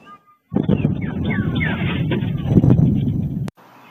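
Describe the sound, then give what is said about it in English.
A sudden, heavy sonic boom from two fighter jets scrambled to intercept an unresponsive small plane, captured by security cameras, bursts in and rolls on as a loud, rattling low rumble for about three seconds, with faint warbling alarm-like tones above it, before cutting off abruptly. “Security cameras captured the sonic boom made by those fighter jets.”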